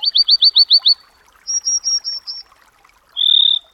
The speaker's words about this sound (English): This is Bird Note. The Western Meadowlark and the American Dipper or Water Ouzel.